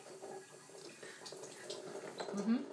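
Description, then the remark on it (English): Running tap water splashes steadily over cherries being washed in a sink, a continuous hissing wash with small irregular clinks and splatters, fairly quiet. “She's washing cherries.”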